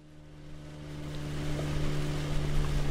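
A boat motor drones with a steady low hum over rushing water noise, swelling slightly louder over a few seconds, with no voices.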